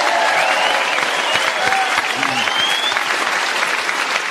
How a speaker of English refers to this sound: A round of applause, our winner.